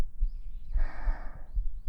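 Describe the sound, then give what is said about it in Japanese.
A muffled heartbeat, heard with an ear pressed against a chest, thumps steadily and quickly, about five beats in two seconds, with a soft breathy exhale washing over the middle. “聞こえる？心臓の音。”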